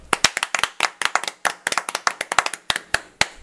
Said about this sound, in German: Na, erkannt? Hör genau hin, hier kommt es nochmal. Das war Applaus, genau richtig.